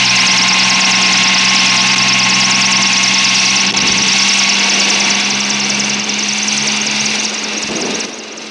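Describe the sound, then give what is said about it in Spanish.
A helicopter flown by Calimán rises again above the sea beyond the beach: a loud, steady engine drone with a throbbing low hum and bright whining overtones of rotor and turbine, holding level before easing off slightly at the end. “la siguiente maniobra de Calimán, que hace que el helicóptero vuelva a elevarse por encima del mar, más allá de la playa.”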